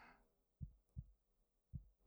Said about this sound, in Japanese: 今回はとても収まりそうにないですから、心音を聞かせるのはこれくらいにしておきましょうか。